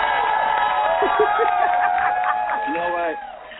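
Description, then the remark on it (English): A canned applause track played to celebrate the Celtics beating the Bulls: a steady roar of crowd cheering with whoops and shouted voices rising above it, holding a constant loud level before dropping off slightly at the end. “Did you think I wasn't going to play the applause track?”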